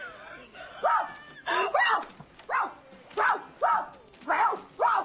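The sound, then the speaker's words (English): A person imitates a dog's barking, giving about eight loud yelping barks in an uneven rhythm, with brief gaps between them. “It says there's a place that you can touch a woman that'll make her bark like a dog.”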